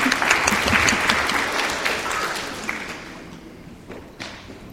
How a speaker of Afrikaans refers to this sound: dankie sê vir die dameskomitee wat die verversings en alles ook weer versorg het vir ons vandag so, ons kan eindelijk maar vir hulle ook so'n lekker hande klap gee, hulle is altyd bereid om te help.